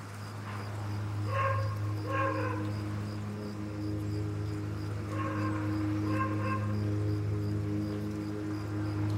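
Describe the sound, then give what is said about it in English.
Dogs bark in two short pairs of yaps, a few seconds apart, over a steady low hum that runs throughout. “Cassie is startled by the dogs.”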